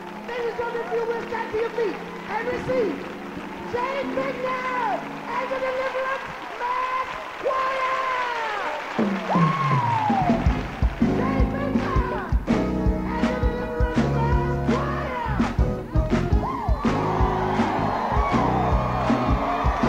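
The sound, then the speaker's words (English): An audience claps hands and stomps feet in a steady rhythm, loud, mixed with many voices singing or shouting over a heavy, booming beat. “I want you to clap your hands and stomp your feet.”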